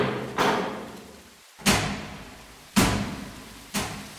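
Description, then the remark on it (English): A heavy vault door works open with four loud, echoing metallic clunks spaced about a second apart, each ringing out and fading before the next, with no voices. “This is the door to the vault. Lights are automatic, so don't be alarmed.”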